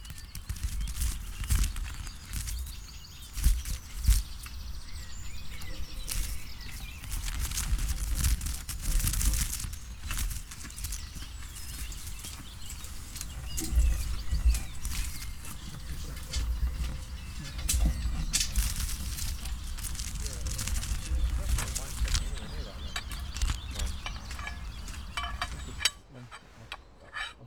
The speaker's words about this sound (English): the birds hang in cotton bags suspended from metal poles. The sound of feathers attempting flight within the confines of the bags is scarily claustrophobic.